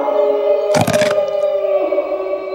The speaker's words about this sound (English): So you get a wolf howl for you.